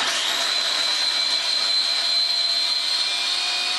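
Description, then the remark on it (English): A steady, high-pitched motor whine from an electric blender blending curry paste ingredients runs at constant loudness, with a thick whirring roar and no pauses or voices. “So you're going to blend this for about 3 minutes.”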